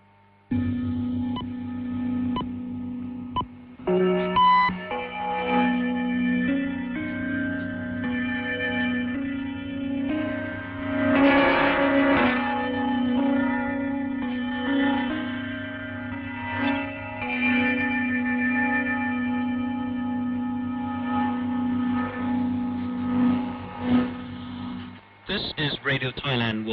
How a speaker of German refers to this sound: Die Sendungen beginnen mit einem charakteristischen Sendezeichen aus Gongs und Glockenspiel als Stationskennung.